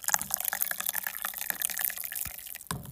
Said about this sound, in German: So will jetzt irgendwie, oh, ist voll wenig Tee, ich muss doch mal nachschenken. Kuschelt euch irgendwo hin, macht euch schöne Lichterketten an, solange ich mir meinen Tee einschenke.